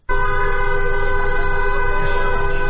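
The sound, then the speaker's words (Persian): A passing car's horn blares in one loud, unbroken, steady blast from start to finish in Tajrish Square, Tehran, Iran, as drivers honk in support of a street protest march, with faint traffic rumble underneath and no talking. “در میدان تجریش تهران هم گروه‌هایی از دخترانی که حجاب از سر برداشتند با همراهی پسران دست به راهپیمایی در منطقه زده و خودروهای عبوری نیز با بوق‌های ممتد از اقدام آنها حمایت کردند.”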